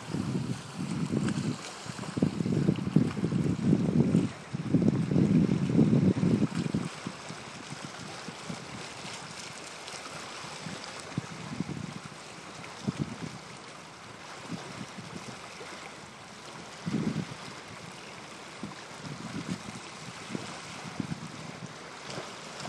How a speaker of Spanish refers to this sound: Pero el mar está golpeando aquí ahora, curiosamente, así que lo que nos interesa más que el dato histórico es la foto sonora del agua aquí golpeando, el agua atrayente que golpea.